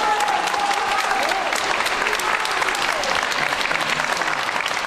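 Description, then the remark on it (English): A crowd of supporters, mostly women, applauds steadily at the court, cheering on Pelicot as she enters or leaves; dense clapping mixed with cheers and a few whoops rising above the noise, holding at a loud, even level throughout. “And Pelicot's case seemingly lit a fuse, drawing supporters, mostly women, to the court to cheer her on as she entered and left each day.”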